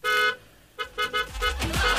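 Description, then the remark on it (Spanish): A car horn blares outside a house as a car arrives to pick up a passenger: one long honk, a pause, then a quick run of short, insistent beeps, loud with no voices. “Y cuando sean 15 minutos para las 3, afuera de su casa va a escuchar un...”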